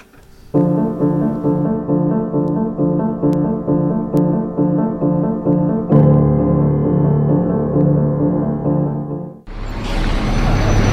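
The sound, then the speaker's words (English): A bus engine idles with a steady, throbbing low rumble, swells louder partway through, then gives way to a broad, rushing roar near the end. No one speaks. “I don't think it's making that much noise, but I won't know for sure until that bus pulls away.”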